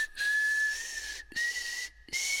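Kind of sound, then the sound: human body sound, whistling a melody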